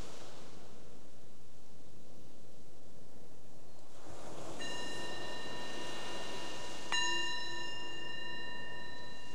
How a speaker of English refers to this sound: The bells are an invitation to bring the awareness back to the surface, back to your surroundings.